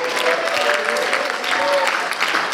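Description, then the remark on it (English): An audience claps in praise of Jesus in a steady, dense patter that stays fairly loud throughout, with a faint murmur of voices and a thin sustained tone running underneath. “If you're giving me a clap, that's okay, but we're praising the King of Kings and the Lord of Lords.”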